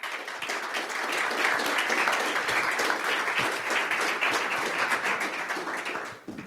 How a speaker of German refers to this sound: Und da habe ich auch zwei super liebe Kolleginnen heute dabei, und zwar einmal einen ganz großen Applaus